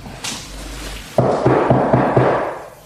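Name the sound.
knocking on a door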